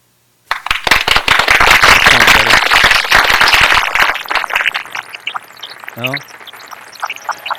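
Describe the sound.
A loud, dense patter like heavy rain, many sharp crackling taps in a rapid burst that thins out into scattered, fainter drops, with a brief voiced sound near the end.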